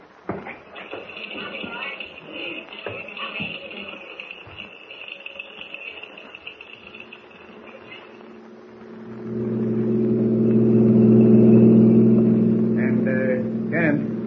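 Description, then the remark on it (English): A car engine rises from soft shuffling noises into a loud, steady low rumble with humming tones, revving and pulling away over the last several seconds. “We'll take my car.”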